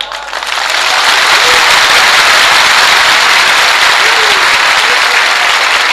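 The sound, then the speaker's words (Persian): Loud, sustained applause from an audience, a dense crackle of many hands clapping that swells in quickly and holds steady for several seconds, with no one speaking over it. “این کفو میزنی هنوز تو گریه ای بابا”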